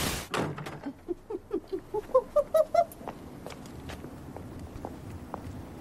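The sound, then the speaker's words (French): A brisk run of about ten evenly spaced footsteps, each with a faint ringing tone, growing louder over a couple of seconds before fading into sparse, quiet taps against a low background hum, forming a very minimalist soundtrack. “Des bruits de pas, une bande-son très minimaliste, à la différence de Messager et de l'univers de Michel Legrand.”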